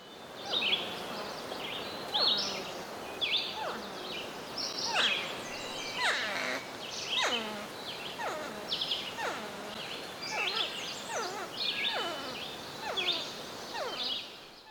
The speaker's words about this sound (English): And then the next one is of some porcupines vocalizing in, I think, the manner that Nicholas was talking about.